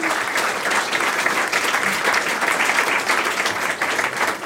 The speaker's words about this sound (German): Hat sie gut gemacht, oder? Ein Applaus für Maike Schäfer.